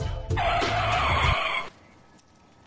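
A loud screech of car tires skidding as brakes lock, lasting over a second with a rumbling low end, then cutting off into quiet. No talking.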